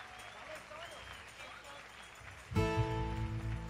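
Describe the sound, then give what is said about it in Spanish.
An audience claps steadily in a dense, crackling wash with voices mixed in, then a loud tonal musical sound abruptly takes over for the final second. “Siga, siga aplaudiendo.”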